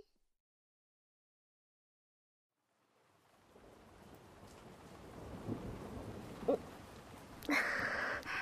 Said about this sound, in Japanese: 雨降ってきちゃいましたね。